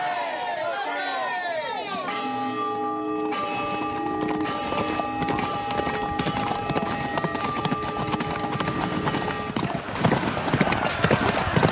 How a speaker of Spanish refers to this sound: ¡Callad! ¡Callad! Ya se oye el rugir de los caballos.